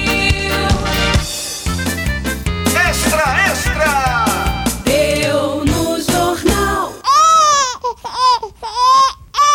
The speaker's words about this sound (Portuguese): O que fazer quando o neném começa assim a chorar sem parar? É melhor pegá-lo no colo ou deixar o menino no berço pra ele não ficar mimado demais?